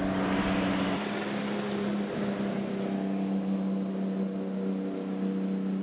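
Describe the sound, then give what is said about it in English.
A U.S. Border Patrol boat motor drones steadily on a river at the U.S. border, a constant low engine hum with rushing water noise, holding even for the whole stretch with no voices. “That includes U.S. Border Patrol boats.”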